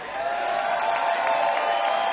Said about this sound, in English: Applause for Finger Time.